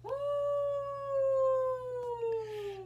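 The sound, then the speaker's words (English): A person imitates a Sasquatch yell with one long, loud, howling call that holds a steady tone and then slowly sinks in pitch over about three seconds, with no talking. “Let's give a Sasquatch yell”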